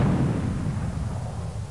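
A loud, deep cannon blast rumbles on its own, its booming low roar rolling steadily for a moment before easing off slightly, with no voices over it.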